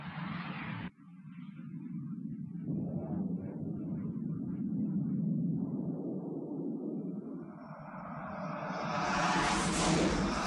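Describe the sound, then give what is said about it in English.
Jet aircraft roar overhead in a film scene set in a dusty desert place, a deep steady rumble swelling in loudness, with a harsh high whine climbing over the last few seconds. No voices are heard. “It's just like it's really this is the dustiest place, but we hear immediately the sound of jets.”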